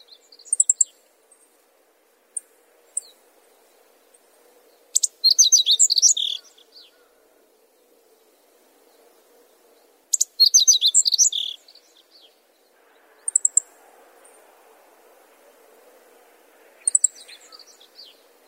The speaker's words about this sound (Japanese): 見晴らしの良い場所の草木やフェンスの上でさえずるホオジロを見つけたら、ぜひ頭の角度にも注目してみてください。